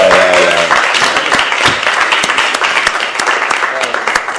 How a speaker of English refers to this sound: Jack Hirschman, everybody. Get a round of applause.